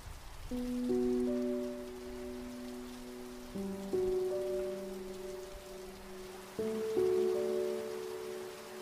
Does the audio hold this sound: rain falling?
yes